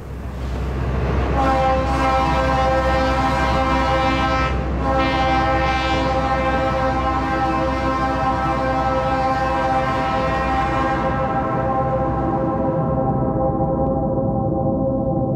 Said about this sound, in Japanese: 電車の音を録音してそれを音楽的に作っているというものです。